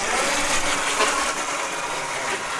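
A steady, hissy mechanical whir runs throughout as a small robot that looks like a car battery crossed with a Roomba scoots back and forth on command on a classroom floor, with slight surges in loudness but no clear pauses or change of direction. No one speaks.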